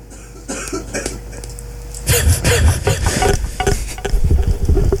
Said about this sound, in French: Cette rubrique a fait décéder quelqu'un en direct. Vous avez entendu, il s'étouffe.